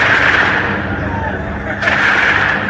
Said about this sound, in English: The sound of gunfire and explosions ring out around the Al-Shifa hospital.